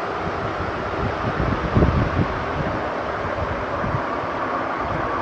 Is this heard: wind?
yes